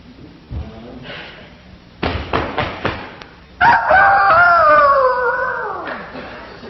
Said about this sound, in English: The rooster's gonna crow.